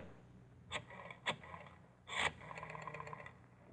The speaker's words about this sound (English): You replace the planks. Hammer in some new pegs.